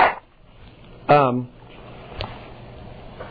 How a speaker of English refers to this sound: Excuse me, I'm going to blow my nose in the mic.